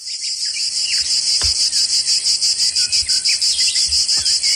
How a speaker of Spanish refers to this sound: Y cuando suena la chicharra, es que el calor aprieta, ¿no? Yo creo que todos tenemos identificado este sonido de algunas tardes de verano que dices, madre mía, aquí está la chicharra en toda su intensidad, qué calorazo, ¿no?